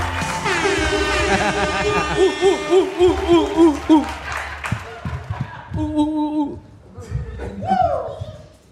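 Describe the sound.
A comedy show audience in Río Piedras cheers loudly for a comedian, with rising whoops and hoots over a bed of clapping, then the noise thins out as scattered voices and a few shouts carry on.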